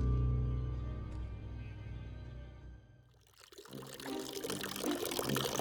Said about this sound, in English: the twins push me into the bath. The water is hot and I step in, letting it envelop me.